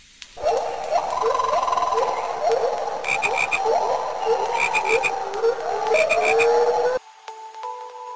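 A dense chorus of frogs croaking loudly and continuously, many overlapping calls with some rapid pulsing trills, cutting off abruptly near the end and leaving only a faint, steady tone.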